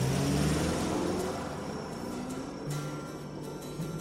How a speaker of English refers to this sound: Well, I guess I'll try the car again. Sure enough, it started up, with a sigh of relief from all three of us.